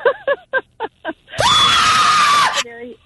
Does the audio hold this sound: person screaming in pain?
yes